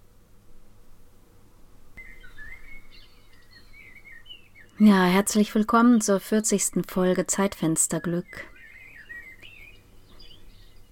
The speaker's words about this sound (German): Während der Sturm gerade ans Studiofenster drückt, habe ich vorsichtshalber mal meine Zwitscherbox angeschaltet, um ein bisschen meiner Sehnsucht nachzugehen, der Sehnsucht nach Frühling.